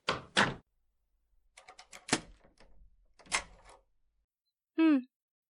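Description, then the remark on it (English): A door being locked: a few sharp, loud clacks with faint rattling and jiggling between them, then a short, high, tonal squeak at the end. “Well, if I hadn't locked the door, you would try to avoid me again.”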